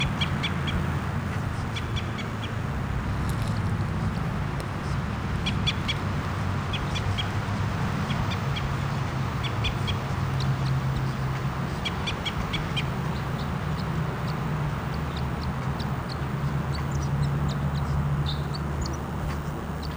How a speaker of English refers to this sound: Recording, here's the bird. It's close by.